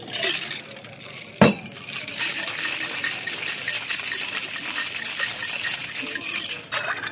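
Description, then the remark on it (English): Ice rattles hard inside a cocktail shaker as a drink of garden water is shaken, in a steady, fast churning rhythm for about six seconds, with a sharp metallic clack near the start, and no voices. “Do you want a shake or stir? Let's have it shaken.”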